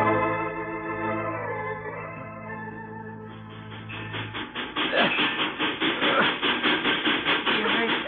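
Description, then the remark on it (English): A steam locomotive starts off with a sustained droning hiss, then settles into loud, regular chuffing that grows steadily as the train pulls away. No voices are heard. “You hear that? Oh, sure, it's the engine. He's pulling out.”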